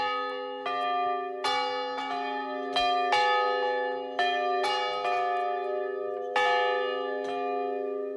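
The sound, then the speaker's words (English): Large bells ring out loudly before an audience, the largest weighing 1,100 pounds and made in 1908 at an Ohio foundry, one weighing 975 pounds. They are struck repeatedly in an irregular sequence, each strike blooming into long, overlapping resonant tones that hum and sustain between hits. “Hey, we have these bells up here. They're amazing, and we're going to ring them.”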